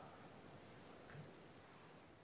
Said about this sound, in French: Ça, c'était du bruit blanc, donc c'est juste un bruit de rien, le bruit blanc. C'est une métaphore calquée sur la lumière blanche. Ça ne ressemble à rien, le bruit blanc.